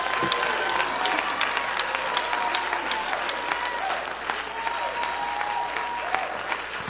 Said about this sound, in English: And if you believe that, I want you to clap your hands with all of your might and shout unto God.